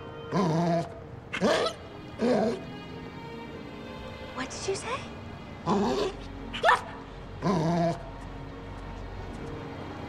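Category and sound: animal, dog growling and barking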